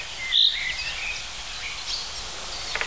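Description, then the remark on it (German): A thin, high-pitched bird song with a cricket-like quality: one bright buzzy note near the start, then faint scattered chirps over steady outdoor hiss, ending with a few quick ticks. “Bisschen wie eine Grille, sagen viele.”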